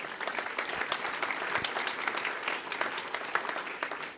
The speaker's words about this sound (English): So I really want everyone to recognize the work that she put into it, and the fact that it really took the rest of the team to pull together to make this happen. So a round of applause for Ashley, please.